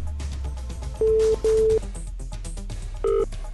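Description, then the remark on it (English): A video phone places a call to a BT Videophone 2000 at the other end: two steady electronic ringing tones in quick succession, a short pause, then a brief chiming beep, all clear over a low background hum. “Let me just see if I can connect into Carl here.”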